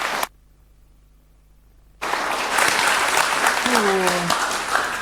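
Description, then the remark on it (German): After a brief quiet pause, loud audience applause erupts and continues steadily, a dense wash of clapping from a crowd, with a faint tonal voice or whistle rising briefly near the end, welcoming the audience to the Lach- und Sachgeschichten aus der Energiewende. “Noch einmal einen riesengroßen Applaus.”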